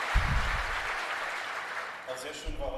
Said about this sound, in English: So the clowns army was a very interesting part of the protest culture, so that's really worth an applause.